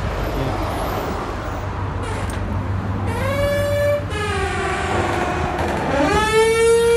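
The entrance door of a gym club gives off a strange, drawn-out whining tone, rising and sliding in pitch across two long swells, over a steady low rumble, with no one talking.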